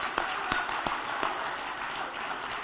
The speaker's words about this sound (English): How about 70 years? Who's been a mom for 70 years? Woo! They both need a round of applause.